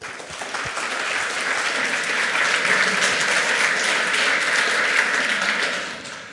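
A crowd breaks into sustained applause welcoming two speakers from the Part-Time Scientists team, a dense, steady wash of many hands clapping that swells quickly, holds at full strength for several seconds, then begins to fade.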